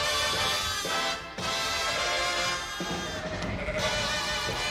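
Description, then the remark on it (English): Sheep bleat loudly, several overlapping wavering cries running almost continuously with only brief pauses, a flock calling together on the Paul and Ginny Walker sheep farm outside Superior, in the Northland. “At locations across the Northland, like on the Paul and Ginny Walker sheep farm outside Superior”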